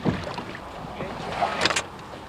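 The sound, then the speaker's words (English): Water sloshes and splashes around a kayak as a paddle dips in while it is paddled about and pulled up to a dock in Anchorage, followed by a couple of brief knocks and scrapes like the hull bumping against the dock. “paddles about a bit and then pulls up to the dock.”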